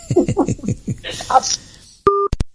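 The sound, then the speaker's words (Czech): On a phone call, a voice talks briefly, then the line cuts off with a click and a single steady busy-signal beep, followed by a couple of sharp clicks as the call drops. “Zapípá 10 sekund a je to venku.”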